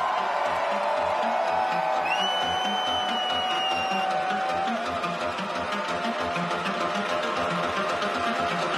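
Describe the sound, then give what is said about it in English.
A large crowd screams and cheers in a loud, continuous roar as a DJ's MC urges them to scream, with sustained whistles cutting through the noise for several seconds. “Ladies and gentlemen, let me hear you scream.”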